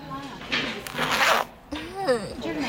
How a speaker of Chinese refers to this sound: 来，人家帮你把拉链拉开。